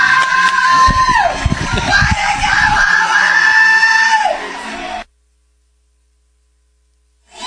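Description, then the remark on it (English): Several people in a baseball press box yell and scream excitedly after Owen Rigsby's three-run home run, the first of his career. The cries are loud, shrill and high-pitched, sustained for about five seconds, then cut off abruptly into silence. “Press box going nuts.”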